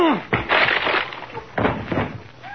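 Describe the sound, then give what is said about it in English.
A loud crash of splintering wood as a man lunges head-first through a wooden door, followed by a second crunching, cracking burst of broken timber about a second later. “All right, Andy, help me pull my head out of this door, will you?”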